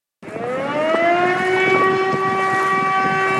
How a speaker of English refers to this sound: A siren warns residents of the Austrian town of St. Pölten to seek higher ground.